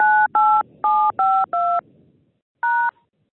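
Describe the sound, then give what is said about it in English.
Phone keypad tones as a conference PIN is entered: five quick dual-tone beeps in a steady rhythm, a short pause, then one final beep. Loud, with no voices. “Enter the conference PIN number followed by the phone.”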